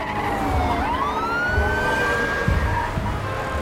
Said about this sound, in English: Cop cars race through an intersection.